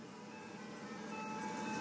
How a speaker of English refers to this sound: Ice cream truck again.